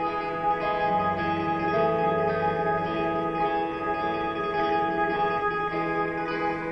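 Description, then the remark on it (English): Electric guitar notes are picked rapidly in a fast, steady tremolo, smeared into a sustained shimmer by heavy reverb and delay effects. The playing stays moderately loud, with no voices. “And it's a cool sound, but it's just that tremolo.”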